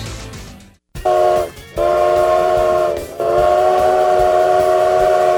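A train's whistle sounds loud in three long blasts, with brief gaps between them, over the low rumble of the train rolling along the track.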